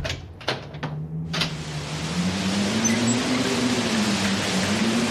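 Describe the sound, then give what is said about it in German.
A door is opened with a few quick clunks and rattles in the first second or so, followed by a steady rushing noise and a low, slowly wavering hum. No one speaks. “Mach auf, Ingrid! Mach sofort auf!”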